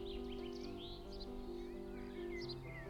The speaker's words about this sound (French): Tiens, vous entendrez le chant des oiseaux ici parce que je suis en pleine campagne pour tourner cette vidéo.